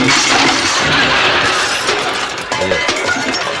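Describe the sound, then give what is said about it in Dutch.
Empty coffee cups fall and shatter, a loud burst of breaking ceramic and clinking shards that scatter and rattle for a few seconds before settling. “Haal ik eerst even de lege koppies op, het zingt.”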